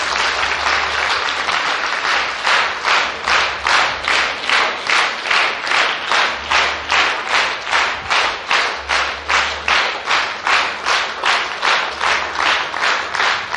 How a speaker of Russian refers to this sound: Поаплодируйте друг другу за ту работу, которую вы вели здесь. И мысленно, пожалуйста, пожелайте удачи каждому на этом пути, на пути реализации этих знаний. Через аплодисменты пожелайте друг другу этого.